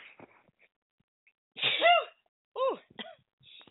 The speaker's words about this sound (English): Ooh. Oh my goodness. Sorry about that. Excuse me. That was a big sneeze.